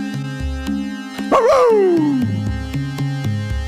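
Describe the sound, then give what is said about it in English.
A single dog bark rings out over steady background music, starting sharp and then trailing into a longer yelping cry that slides down in pitch, fairly loud. “It expressed thanks with a sharp bark.”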